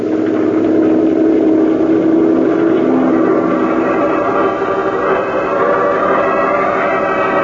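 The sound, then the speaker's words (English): A patrol boat motor drones steadily and loudly throughout, a continuous engine roar with a low throbbing hum and no voices, running across open water. “Head for it, patrol boat three. We'll join you there.”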